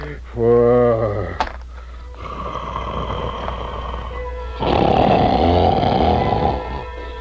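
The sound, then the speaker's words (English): Loud, exaggerated snoring: a rising, throaty rumble opens into a long rasping breath, then a heavier grating snore swells and holds to the end, likely voiced by a performer as a sleeping giant. “Soon the wicked giant was fast asleep, and the castle trembled with his snores.”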